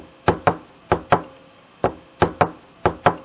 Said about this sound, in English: Sometimes they clap their hands or they tap their fingers to the rhythm, like this.